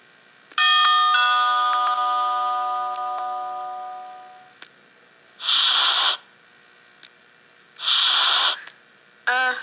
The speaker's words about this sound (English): Remember the March for Freedom by ringing a bell at 3 p.m. today.